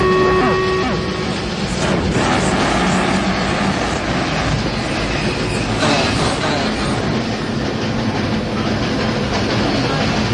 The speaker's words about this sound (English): This is the subway from the interior. We'll see how long a subway ride is every day.